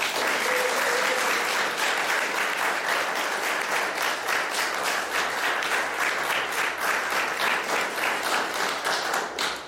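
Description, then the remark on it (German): Sustained applause from an audience welcoming the painter Elvira Bach at an exhibition opening in Galerie 11, a dense, steady patter of many hands clapping for about ten seconds, fairly loud, with no one speaking over it. “Und bitte euch und Sie, liebes Publikum, Elvira Bach hier bei uns in der Galerie 11 ganz herzlich zu begrüßen.”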